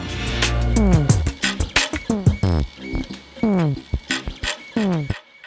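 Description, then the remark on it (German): A 3D printer at the DHL Innovation Center in Troisdorf prints a holder for a temperature sensor, a job of about two hours; its stepper motors whine in quick rising and falling pitch sweeps with short whirring bursts and brief pauses, fairly loud. “Ein Drucker ist gerade dabei, eine Halterung für einen Temperatursensor zu drucken.”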